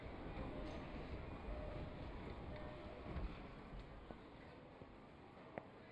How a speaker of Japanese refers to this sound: 電車着いたね。入ろっか。